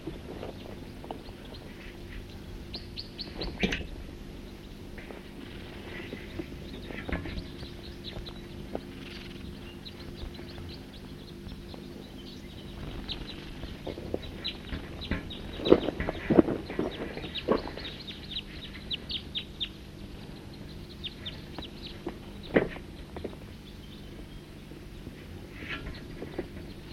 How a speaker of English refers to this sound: Recording. The birds are here, drinking from the creek. Good number of them. Here come some more.